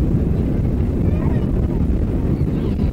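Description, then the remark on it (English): A loud, steady low-pitched roar of airplane engines at takeoff power as the plane picks up speed down the runway at Heathrow, just about to lift off, a dense rumble that holds constant throughout with a slight whooshing hiss above it. “Just about to lift off, I would think.”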